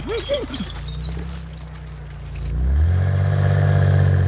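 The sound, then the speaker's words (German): The race car Kalli Rennauto drives very slowly, lighting up the street; its engine rumbles low and steady as it creeps along, swelling into a louder, deeper drone after a few seconds, with faint jingling and clattering early on. “Kalli fährt ganz langsam und leuchtet die Straße ab.”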